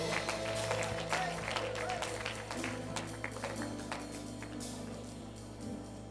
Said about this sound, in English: Praise the Lord. Let's give God one more hand clap of praise for what he's done in this place this morning.